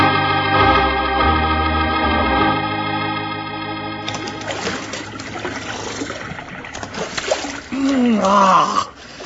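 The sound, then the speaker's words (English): Music gives way midway to splashing, bubbling water of a cool mountain stream, fairly loud, with a brief voice sound near the end. “You know, Bill, there just ain't nothing to beat a nice long swig of fresh water out of a cool mountain stream.”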